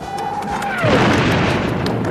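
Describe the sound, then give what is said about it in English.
A sonic boom from a supersonic jet: a high whistling tone slides downward, then a loud, broad rumbling blast bursts in and roars steadily to the end, with no talking. “When an airplane travels faster than the speed of sound, a shockwave is created that is commonly known as a sonic boom.”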